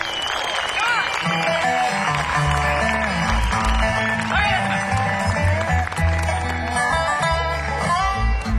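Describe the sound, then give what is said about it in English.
An audience claps and cheers steadily for the band's manager during band member introductions while a band keeps playing underneath, with a bass line and melodic instruments running throughout the applause. “That means y'all have to give her the biggest round of applause.”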